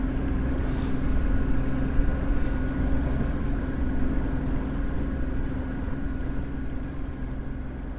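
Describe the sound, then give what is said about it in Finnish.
A boat engine drones steadily as the boat motors toward Kai harbour, a continuous low rumble with a humming tone that stays at the same loudness throughout, with no voices. “Ja jätämme veneen sinne ja sitten matkaamme tuonne Gluvharulle hänen moottoriveneellään.”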